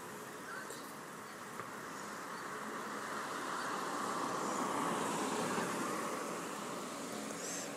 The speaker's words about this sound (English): A car goes by.